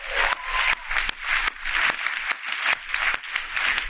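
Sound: audience applause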